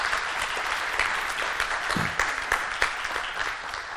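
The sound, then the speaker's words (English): After a prayer, a crowd applauds steadily to thank people who represented them on a mission, a dense wash of clapping hands at an even, sustained level with a few sharper individual claps standing out, no voices over it. “Hey, let's thank them for representing us there.”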